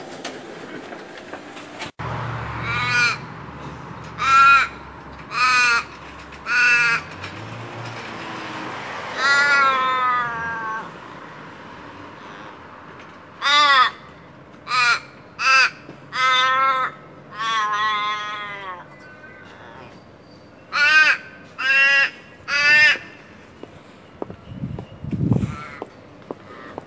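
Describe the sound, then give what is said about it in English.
A city crow caws loudly less than a metre away, its harsh calls coming in repeated bursts of three or four with short pauses between, against a quiet outdoor background with no talking. “That crow was less than a metre. I could have touched him. It's a city crow.”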